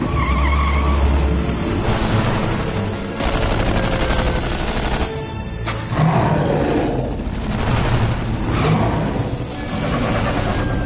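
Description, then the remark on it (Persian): A loud, continuous police car chase after a criminal's car on Fifth Street near the bridge: roaring engines and long screeching tire skids, with rapid bursts of gunfire mixed in throughout, dense and chaotic with no talking. “به تمام واحدا، عملیات ترجیم و گریز در جریانه. ماشین مجرم در خیابان پنجم نزدیک پل بریج.”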